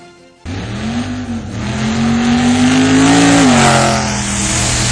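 A car engine kicks in abruptly and revs loudly and steadily, its pitch climbing then dipping slightly, sustained with no voices.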